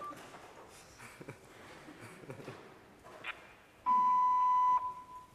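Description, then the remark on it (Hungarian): A single steady electronic beep, a clean mid-pitched tone lasting about a second, a telephone voicemail beep, sounding loud and alone after some faint background rustling. “Hát ez a sípszó, ez a hangposta volt, gyanítom.”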